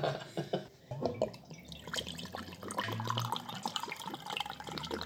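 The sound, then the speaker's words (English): Brandy from a big bottle glugs and splashes steadily into a glass for about five seconds, a continuous liquid trickle with small bubbling drips and no one speaking. “It's a big bottle of brandy. I'm using this glass because it's one that Mom used to drink bourbon out of all the time.”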